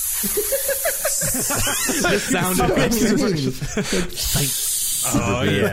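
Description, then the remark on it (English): A voice makes drawn-out, snake-like hissing noises in short bursts, stretching a long S sound, mixed in with lively talking and some laughter from other speakers. “There's like a tough, cool snake sound, right?”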